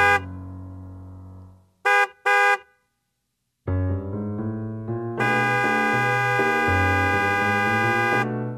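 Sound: car horn honking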